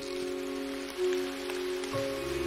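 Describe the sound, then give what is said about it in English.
Heavy rain pours down from a dark sky in a steady, dense hiss of patter, continuous, with a sustained low humming tone running underneath and no voices. “Moomin Troll looks out of his window at the rain pouring down from the dark sky.”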